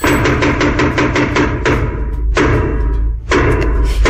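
A quick run of heavy wooden thuds pounded on a floor, then three slower, louder blows spaced apart: the traditional 'trois coups' struck at the theatre to announce that a play is about to begin.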